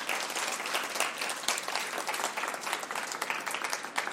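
Steady applause from an audience, a dense wash of many hands clapping at an even level for several seconds, with no voices standing out.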